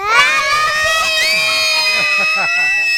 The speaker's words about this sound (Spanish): ¿Qué parece si hacemos un grito de la radio en colores? ¿Ya? Sí. Radio festival, al 1, 2, 3, ¿ya? Ya. Todos juntos. 1, 2, 3.